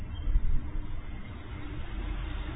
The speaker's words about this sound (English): Wow, did you hear that truck? Isn't that amazing? It's just like music.